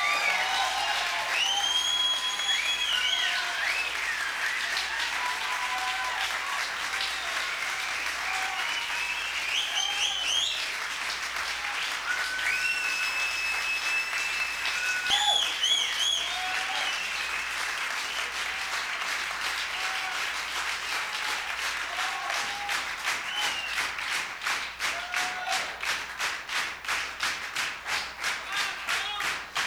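Sustained audience applause at the end of a concert, with dense, rapid clapping and scattered whoops and whistles from a crowd, steady and loud throughout, with individual claps standing out more sharply toward the end.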